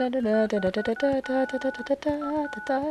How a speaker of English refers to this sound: I would get punished for stealing the cordless phone, hiding in my room, and making music on the keypad. She can still do this.